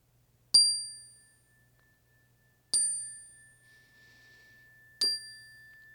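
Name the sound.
meditation chime ringing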